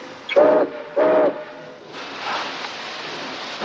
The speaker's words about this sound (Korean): 제크의 화물열차 19호는 포틀란드를 향해 다시 출발하고 넘버원은 자신이 다시 이 열차에 탄다고 예고합니다.